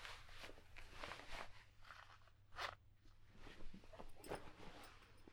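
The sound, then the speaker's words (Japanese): Trousers being tugged down off a person, heard as a run of soft fabric rustles and scrapes in uneven bursts over several seconds, with no voices. “下を脱がせます。ズルズルっと。”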